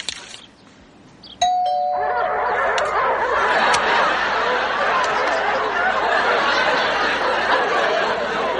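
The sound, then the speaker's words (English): A barking doorbell (a bark bell) chimes once, then a loud, dense wash of sound takes over and keeps going for several seconds, with barking-like noise mixed into the din and no clear talking. “You know, just the other day I was thinking, why doesn't our doorbell bark? It's probably because we didn't have a bark bell.”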